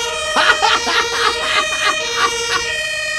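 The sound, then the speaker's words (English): A European-style police siren sounds steadily throughout, a loud, bright, buzzy tone with rhythmic bursts pulsing roughly twice a second over it. “But there's been so many complaints that New York is starting to change their sirens and their cop cars to European-styled sirens.”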